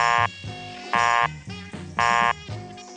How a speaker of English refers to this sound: Dialing your own number in those days always gave you a busy signal.